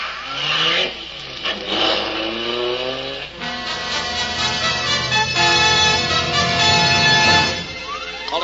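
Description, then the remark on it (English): A getaway car's engine revs hard and accelerates away from an armed holdup at the Prentice Hat Factory in Hackensack, its rising harmonic whine climbing in pitch across several gear pulls, loud with no voices over it. “Armed holdup by at least three men leaving holdup scene in three separate cars.”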